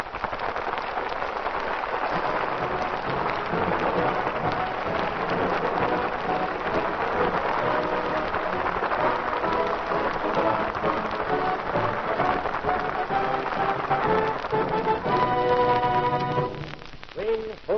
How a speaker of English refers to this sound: Thunderstorm.